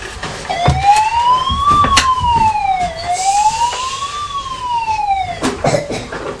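A toy fire engine siren, set off by pressing a button, wails loudly in two slow rising-and-falling sweeps, with its electronic tone running for about five seconds alongside a few sharp clicks. No one speaks.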